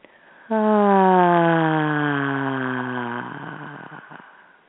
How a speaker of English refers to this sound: And another breath.